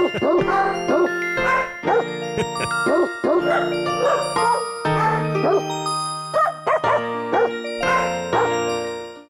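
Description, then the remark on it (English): Dog barks pitched to carry a jaunty Christmas tune, popping out in quick rhythmic bursts over a bright instrumental backing, loud and continuous from start to finish. “The worst Christmas song ever. Those dogs can't sing.”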